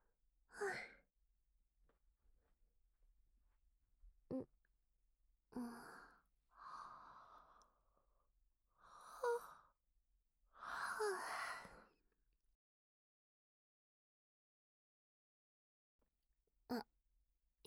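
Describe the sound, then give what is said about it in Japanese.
A person yawns, with a run of drawn-out, breathy vocal exhales and a few short gasps. They are fairly soft, separated by quiet pauses, and no one speaks. “あくびしてるところ、そんなにじっと見たら恥ずかしいよ。”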